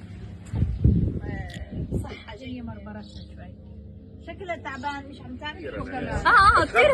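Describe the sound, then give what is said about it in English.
Donkeys at an animal rescue in Gaza bray loudly near the end, a harsh wavering call rising over a busy background of overlapping voices and animal noises, with earlier scattered calls and chatter throughout. “Those are donkeys.”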